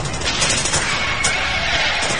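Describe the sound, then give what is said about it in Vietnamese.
Dense, continuous gunfire crackles throughout, with a few sharper bursts standing out, like a heavy night battle with machine-gun and AK rifle fire and blasts mixed together. Loud, with no voices. “Lửa nhắn lên cùng với tiếng nổ ầm biết con rái. Đạn đại liên cài sới trước mặt anh Thành đường dài.”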